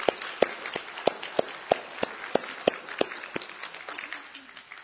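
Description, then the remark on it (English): A theatre audience at a stage show of Scrooge applauds the pit band, volunteers and crew, with a dense patter of many hands and a steady run of sharper, evenly spaced claps punching through, loosening and thinning near the end. “So let's applaud those people as well for their efforts.”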